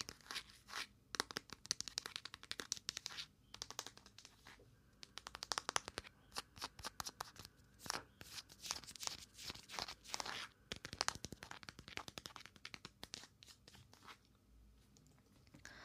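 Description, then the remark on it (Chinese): Fingers tap and click on a phone case in quick, irregular bursts of crisp, dry knocks, with a few short pauses, steady throughout and without any voices. “对，那手机壳呢？手机壳的敲击好。”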